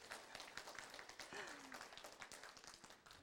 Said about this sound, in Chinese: 好，再一次感谢他们，在我们，让我们用热烈的掌声再一次感谢他们。